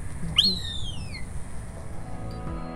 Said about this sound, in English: And there are four of these birds, and they make that sound that you just heard, which is kind of a whistly.